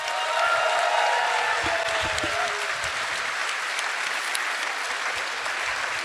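A crowd applauds steadily, many hands clapping in a dense, continuous wash for about six seconds, with a few faint voices mixed in early on.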